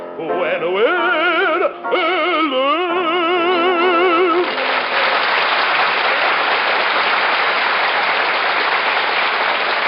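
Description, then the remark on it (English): A few seconds of music with wavering, vibrato tones give way to loud, steady audience applause, a dense wash of clapping that holds on without letting up until the end. “When now, please, no applause.”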